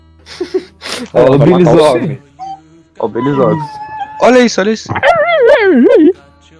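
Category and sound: animal, dog vocalizing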